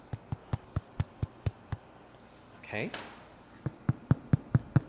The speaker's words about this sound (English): you can tell if you're getting the right eye formation really by tapping on the cheese in here